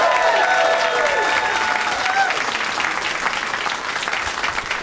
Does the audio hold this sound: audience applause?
yes